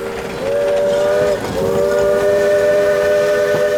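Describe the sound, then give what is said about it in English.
A steam train of the North Pacific Coast narrow gauge railroad rumbles through the town of Point Reyes Station with a loud, sustained whistle that blows twice, the second blast long and steady over the clatter of the engine and cars. “The hissing, steaming engines transported lumber from the Russian River”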